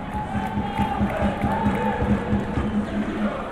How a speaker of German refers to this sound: Vor allem auch wegen der besonderen Atmosphäre im St. Jakob Park. Denn der hat mit gut 2'000 Zuschauern fast leer gewirkt und für die Stimmung haben vor allem die Zürcher Fans gesorgt.